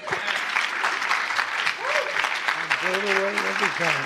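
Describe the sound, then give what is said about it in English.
Loud, dense applause from a large audience standing to give Jesus a clap offering, a steady wash of many hands clapping without pause, with a voice or two calling out over it in the second half. “Well, come on, let's all stand together and give Jesus a real good clap offering.”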